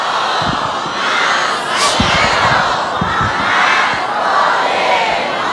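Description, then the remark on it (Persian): A large crowd chants a loud salawat in unison for the joy of the soul of Hajj Qasem and all his companions, a dense roar of many voices held at a steady, forceful volume throughout, with rhythmic low thumps underneath. “ای درود خدا بر حاج قاسم، ای درود خدا بر یاران حاج قاسم، برای شادی رو حاج قاسم و همه یارانش یه صلوات بلند خط کنیم.”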